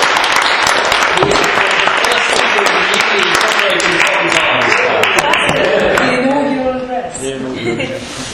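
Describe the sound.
A crowd bursts into sustained, loud applause, a dense wash of clapping that holds steady for several seconds before tapering off as a voice begins to speak.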